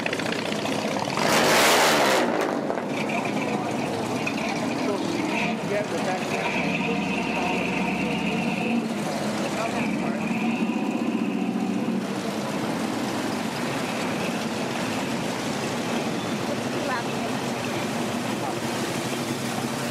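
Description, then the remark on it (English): Outdoor car show ambience with engines running and revving, a loud rumbling burst near the start, then a steady engine drone under faint background chatter. “Enjoy the car show.”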